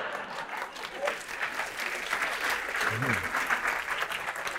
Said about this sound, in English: That's an applause break.